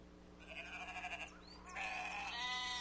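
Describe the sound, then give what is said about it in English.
A sheep bleats twice in quick succession, each call a wavering, nasal cry with a tremulous pulse, against a faint steady background hum. “How many says it's a sheep? All right, you guys are good.”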